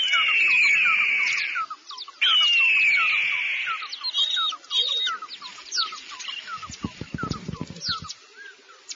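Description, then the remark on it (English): Two long, loud, piercing screeches of an eagle ring out one after another, followed by shorter squeaky cries and a burst of low thumps near the end. “The eagle, where?”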